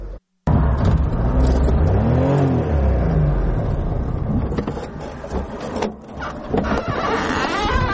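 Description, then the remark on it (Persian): A small Daewoo Tico car engine revs and drones steadily while driving the roads of Tursunzoda, Tajikistan, its pitch rising and falling as it accelerates, with mechanical whirring and rattling throughout and no voices. “در راه های تورسون‌زاده تیکه سواری کرد.”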